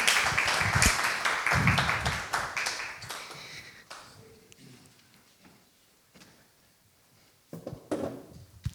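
An audience claps together in a warm burst of applause that fades out after a few seconds, followed by a few scattered knocks and shuffling sounds.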